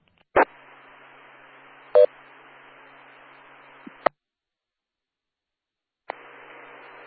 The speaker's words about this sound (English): You drop it so I can get in some noise, apparently keys of the repeater, so Echo Link still won't let him